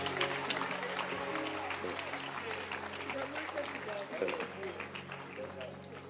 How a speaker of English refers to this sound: Clap your hands for church. Church is just good.